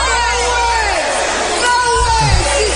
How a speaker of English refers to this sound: New Bremen fans shouting, "No way." Well, that's what it was. At least that's what the referee says.